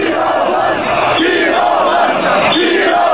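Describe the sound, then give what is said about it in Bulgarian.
A large protest crowd of tens of thousands chants in unison in the street in Varna on the national holiday of 3 March, loud and continuous, with rhythmic swells of many voices repeating a short phrase roughly every second over a dense roar. “следва най-мащабният протест във Варна.”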